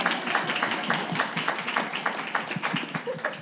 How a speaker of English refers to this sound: Yeah, clap for her.